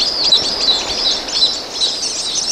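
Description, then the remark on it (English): A flock of white-collared swifts, huge all-black swifts the size of small falcons, flies toward a small waterfall with a cave entrance in southern Mexico at sunset, giving a dense chorus of shrill, high-pitched chattering calls that overlap continuously and stay fairly loud throughout, with no voices present. “It's a flight of white-colored swifts, huge swifts the size of small falcons, winging toward the waterfall.”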